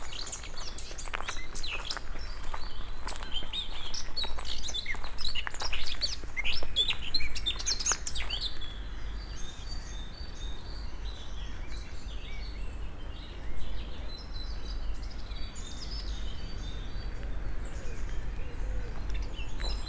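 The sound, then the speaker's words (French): Birds chirp and sing outdoors, with busy overlapping calls in the first half that thin out later over a steady low rumble of wind or ambient noise. “Et là où l'homme ne s'est pas sédentarisé, la nature reste entière. rythmée par les saisons, les arbres et les oiseaux.”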